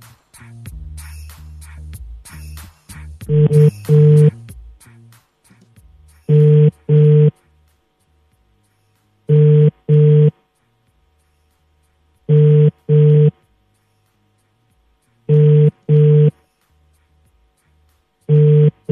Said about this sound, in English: Answer your phone, Father.